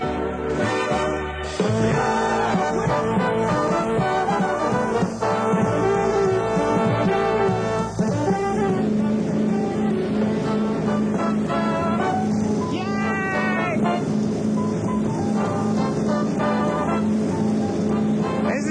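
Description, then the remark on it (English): A glass bottom tour boat's steady engine drone rumbles over ocean surf off the beaches of Hawaii, with seagull-like cries calling out now and then; the scene is continuous and fairly loud, with no talking. “Glass bottom boat tours here. Come on, boys. We're getting on board.”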